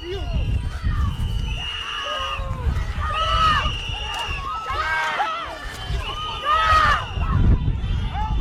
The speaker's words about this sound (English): We saw observers shouting at the agents as they walked back to their vehicles.